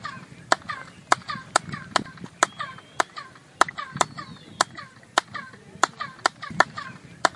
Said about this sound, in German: Du nimmst ein spezielles Geräusch wahr, wie das Schreien eines Vogels. Man nimmt an, dies sei der Ruf des Quetzals, des heiligen Vogels der Maya.